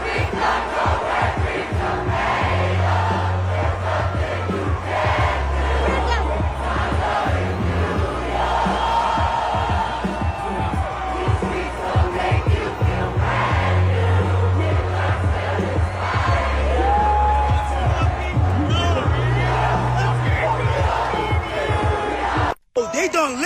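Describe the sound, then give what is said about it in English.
A huge crowd in New York City, celebrating a win, sings and chants together in a loud, sustained roar, voices blending into a dense wall of sound with steady low pulses underneath, breaking off abruptly near the end. “here's New York City singing together”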